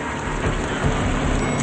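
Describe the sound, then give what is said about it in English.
A lighted waterfall in front of a glass wall in a marble and glass lobby flows in a steady, unbroken rush, a dense hiss of falling water over a soft low rumble, holding an even loudness throughout with no voices. “They approach a waterfall flowing in front of a glass wall.”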